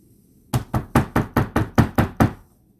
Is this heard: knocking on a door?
yes